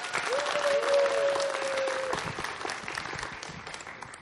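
A crowd claps in a dense, steady burst of applause for about four seconds, with a thin sustained tone sounding over it during the first two seconds.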